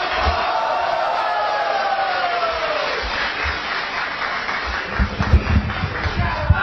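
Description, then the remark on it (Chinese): A crowd applauds in a dense, steady wash of clapping for several seconds, with whoops and cheers rising over it and a few louder thumps toward the end. “谢谢朋友们的热情 掌声。”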